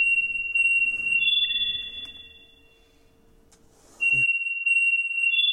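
A communicator's electronic ringing signal: steady, high-pitched beeping tones that hold, layer briefly, fade after a few seconds, then start up again loud and sharp. No one speaks.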